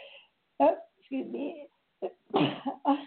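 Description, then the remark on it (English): A loud series of sharp sneezes and snorting breaths, about five bursts in three seconds with brief silences between them and no talking. “Okay, I'm sneezing here at the same time.”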